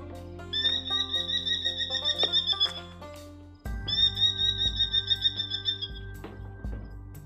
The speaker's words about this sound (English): But a merlin is a smaller bird of prey. Here, hey Charlie, what does it sound like? I have it right here.